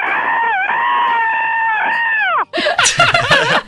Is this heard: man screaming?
yes